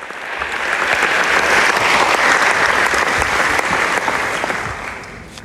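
Loud, sustained applause from a large audience greeting performance artist Marina Abramović as she walks onto the stage, a dense roar of clapping that swells in over the first second, holds steady, then eases slightly at the end.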